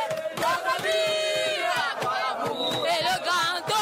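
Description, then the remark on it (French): A large crowd sings the refrain of Cameroon's national anthem in loud, fervent unison in the streets at Poste Central in the city centre, many voices rising in wavering chant-like lines over a dense roar of cheering that stays steady throughout. “Le refrain de l'hymne national du Cameroun est entonné avec hystérie.”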